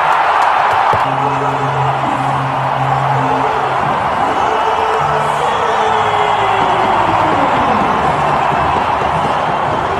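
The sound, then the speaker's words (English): A packed arena crowd of Flames fans at the Calgary Saddle Dome roars and cheers continuously just before the puck drop, watching the big screen as the Blue Jays reach the World Series; a dense wash of noise with loud whoops and bellowing voices rising over it, some voices holding long sustained shouts. “That was the scene in the, this is the scene in the Calgary Saddle Dome last night, as the puck actually hadn't been dropped.”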